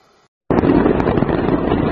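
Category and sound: impact, explosion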